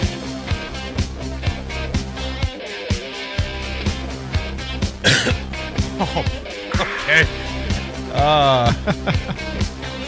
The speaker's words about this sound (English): I wasn't expecting the mic to be hot there. At least I coughed and didn't do a litany of other things that I should have done.